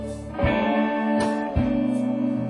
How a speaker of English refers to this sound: diesel's humming. Listen.